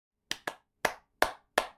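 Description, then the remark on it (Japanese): Five sharp hand claps in an uneven rhythm, two quick ones followed by three more evenly spaced, clapping out the tune of the nursery song "Mary Had a Little Lamb", clear with no voices. “今手拍子でメリーさんの羊を歌いました。”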